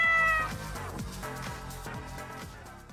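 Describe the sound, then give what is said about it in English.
A cat lets out a short, loud meow right at the start, then a steady rhythmic thumping beat carries on underneath for the rest of the moment. “No cats were harmed in the filming of this sketch.”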